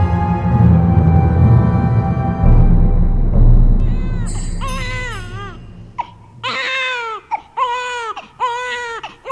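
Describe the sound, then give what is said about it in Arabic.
A baby boy cries loudly late at night in a string of rising and falling wails that come in short, repeated bursts, following a low, dense rumble at the start. “إنه لا يكف أبدا عن البكاء، لعله يود أن تمسح عليه بيدك ليهدأ.”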